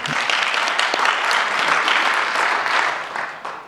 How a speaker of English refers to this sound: I got a hand out of this crowd. That is not something that I expected.